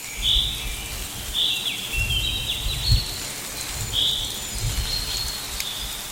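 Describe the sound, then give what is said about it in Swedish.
Light midsummer rain patters steadily in the background while birds chirp repeatedly, their bright calls recurring every second or so over the soft, continuous drizzle. “det lät som ett klassiskt midsommarregn tyckte jag”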